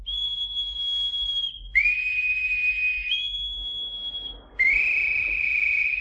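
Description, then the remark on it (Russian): A boatswain's pipe shrills in four long, steady blasts, alternating between a higher and a slightly lower piercing note, loud with no talking, piping all hands on deck. “Эй, боцман, свистать всех наверх.”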